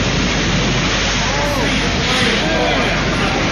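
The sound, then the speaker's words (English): A loud, continuous roar of giant surf and rushing seawater at Cronulla, as huge waves wash through the glass windows of a sea-level waterfront restaurant, unbroken, with a faint murmur of voices beneath it. “Sea level restaurant living up to its name as giant waves washed through the glass windows.”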